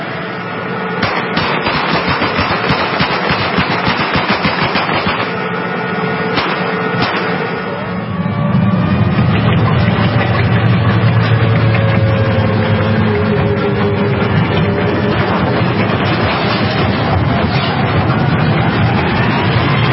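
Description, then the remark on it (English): A United States Army tank crushes a taxi belonging to Iraqis caught stealing wood: sharp crunching and cracking of metal over a deep engine roar, giving way to a loud, steady heavy rumble. No one speaks. “We try to stop them from looting, they don't understand, so we'll take their car and we'll crush it.”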